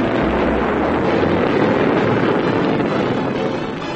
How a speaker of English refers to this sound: Meanwhile, at a small spaceport near London, England's most famous consulting detective, Sonar T. Foom, and his associate, Dr. MacGuffin Drone, board Foom's multi-atmosphere cruiser, the Bellerophon, and blast off for Starlab.